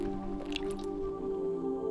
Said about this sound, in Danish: Dybt ind i blomsten får bien en overvældende sanseoplevelse. Og nu får bien lov til at tage en mundfuld af den lækreste saft, blomstens nektar.